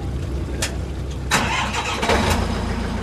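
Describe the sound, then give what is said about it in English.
A high-pressure scallop washer, imported from Japan, cranks into life after a few sharp clicks on a boat docked on Portland's waterfront in Casco Bay, Maine, where live scallops are run through it; its motor swells into a loud, steady mechanical roar, with no one speaking. “On a boat docked on Portland's waterfront, he and a gaggle of young men from several Maine shellfish farms run live scallops through a high-pressure washer.”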